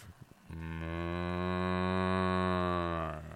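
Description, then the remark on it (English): A single long, steady cow moo rises after a brief pause and holds loud for nearly three seconds before cutting off. “Our sponsor, Ghost Cow.”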